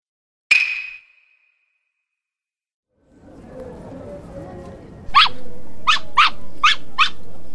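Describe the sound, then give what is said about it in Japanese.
A toy poodle named Pochi gives one sharp yap, falls silent, then growls low under background noise before letting out a quick run of five shrill barks. “こら、ポチ、吠えちゃダメ。すみません。”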